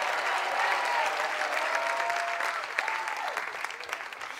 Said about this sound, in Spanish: Vamos, denle un aplauso bien fuerte.